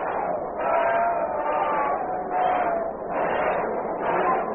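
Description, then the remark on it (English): A large baseball crowd at a Mets–Chicago Cubs game voices its displeasure in a sustained, murmuring roar laced with drawn-out boos, swelling and easing in loud waves every second or so, after the official scorer rules a bunt a base hit for Jim Stewart. “The crowd is not in full agreement, as you can hear.”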